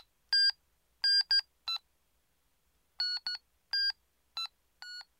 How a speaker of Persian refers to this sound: من یه فکر خوبی داشتم. به همه دوستام تلفن زدم تا اونا رو خبر کنم.